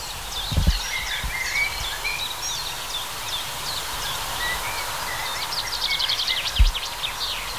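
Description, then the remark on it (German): A male blackbird sings outdoors in breeding season amid a busy chorus of chirping birds, the phrases steady, with a couple of low dull thumps near the start and end. “Ja, sie hört sich jetzt die Amselböcke an und fragt sich, wer soll's sein in dieser Brutsaison?”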